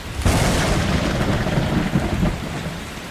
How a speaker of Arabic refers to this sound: وحتى يكون المشهد أكثر درامية، فمع حلول الليل كانت السماء معتمة ومظلمة بسبب وجود الكثير من السحب الممطرة. وخلال الليل كانت العاصفة الرعدية الأشد والأكثر سوءا منذ سنوات.